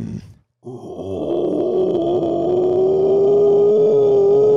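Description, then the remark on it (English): A person imitates a howler monkey: a short guttural grunt, a brief pause, then a loud, rough, sustained growling roar that holds for several seconds, its pitch slowly creeping upward. “Sometimes I can do a howler call. It's like a deep growl.”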